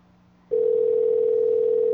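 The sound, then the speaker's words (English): A quiet low hum gives way after half a second to a loud, steady telephone dial tone that holds unbroken to the end, as a cell phone call has dropped. “Looks like we lost her. I think we lost her. It happens with cell phones.”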